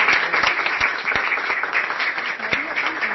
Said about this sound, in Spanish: que se acerque aquí con un fuerte aplauso, por favor.